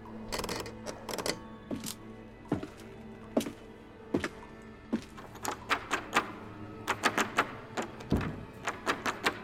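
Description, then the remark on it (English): A door handle is rattled and jiggled repeatedly against the lock of a locked door in a dark room, with sharp metallic clicks and clunks coming in irregular bursts, fairly loud, with no one speaking. “Locked. Shit. Okay. There's no windows and no other way out.”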